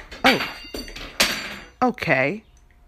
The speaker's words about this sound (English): fucking cat, damn, cat knocked over some shit. Ah! I'm trying to record, bitch! We'll be right back. My bad, y'all. My cat decided to literally just knock everything off the counter. Just fuck it all. Just clean off my shit.